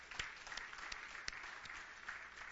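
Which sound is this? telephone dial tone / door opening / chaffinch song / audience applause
audience applause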